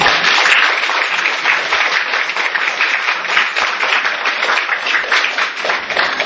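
A crowd applauds steadily for about six seconds, a dense, even wash of many hands clapping at a fairly loud, constant level with no voices standing out.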